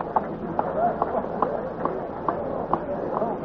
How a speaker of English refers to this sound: You know, the one thing about these tremendous horses, these great Percherons and Belgians, you can feel the ground actually shudder under your feet when they go past you. They're that big and heavy and strong.